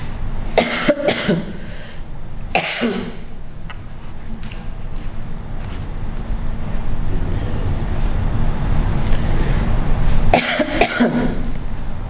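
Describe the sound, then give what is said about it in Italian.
A person with a cough coughs: a quick double cough, another cough moments later, then after a long pause a final bout, all over a steady low background rumble with no talking. “Scusatemi, ho la tosse.”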